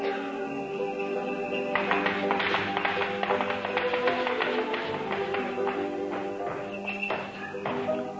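A run of muffled, uneven thumping footsteps of someone walking across the roof, sounding over a steady tonal background hum for several seconds.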